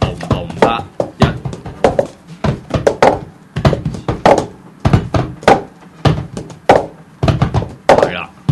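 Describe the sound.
A plastic cup is tapped, clapped, grabbed, knocked against a table and tossed from hand to hand in a cup rhythm game, spinning a full 360-degree circle, in a quick, steady rhythmic pattern: a string of sharp, hollow thunks and slaps, with faint voices underneath.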